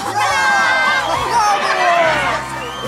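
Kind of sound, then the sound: crowd, audience cheering enthusiastically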